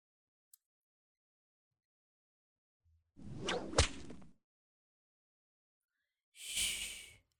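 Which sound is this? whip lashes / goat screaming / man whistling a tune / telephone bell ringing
whip lashes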